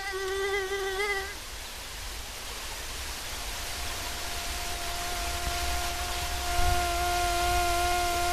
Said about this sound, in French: Voilà, donc vous avez certainement déjà entendu ce type de son agaçant. C'est ce qu'on connaît du moustique.